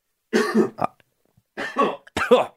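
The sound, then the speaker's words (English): Two harsh bouts of coughing separated by a short pause, each a quick cluster of rough hacks, with no talking around them. “Are you, you know, you have a cough button. I know, I used it twice there.”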